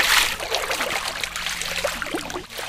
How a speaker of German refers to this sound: Mit leichten Paddelschlägen geht es ends aufwärts, vorbei an dicken Baumwurzeln am Ufer und langen Ästen, die ins Wasser ragen.